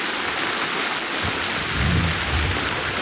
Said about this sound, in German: Boah, das ist das Donnergrollen, das diesen Sturzregen angekündigt hat.